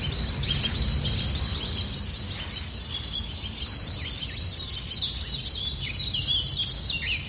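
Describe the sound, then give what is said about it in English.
A busy dawn chorus of several songbirds, including blackbird, great tit, robin, wren and blackcap, singing at once: overlapping whistles, trills and rapid chirping phrases, continuous over a low outdoor rumble, with no voices. “Very familiar birds there, blackbird, great tip, robin, wren, black cap, amongst the ones I just caught snippets of.”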